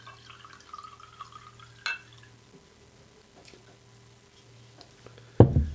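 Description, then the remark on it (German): Wine trickles and drips into a glass, with a bright glassy clink partway through and a louder, heavier splash at the end. No one speaks. “Wenn du zügig gießt und zügig absetzt, tropft sie nicht.”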